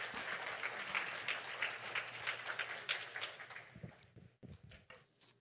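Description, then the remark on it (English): A crowd at a morning church service breaks into steady applause to welcome two people coming up to speak, a dense wash of many hands clapping that thins out near the end into a few scattered claps. “Y'all give them a big round of applause this morning.”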